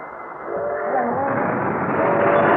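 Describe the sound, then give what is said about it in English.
A train approaching a crossing, its roar swelling from quiet to a loud, steady rush within a couple of seconds, with faint horn-like tones threading through the noise. No one speaks. “What's that? Is that the train? Yeah, it's just at the crossing.”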